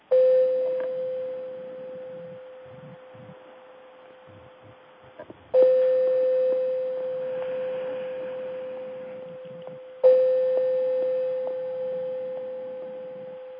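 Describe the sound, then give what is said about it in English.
A gong is struck three times, about five seconds apart, to close a guided meditation. Each strike rings out as a steady, mid-pitched humming tone that slowly fades. There is no talking. “Go ahead and play the gong once again to come back.”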